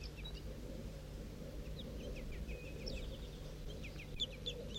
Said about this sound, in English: Start recording bird 4-3 again. He's preening and intermittently singing.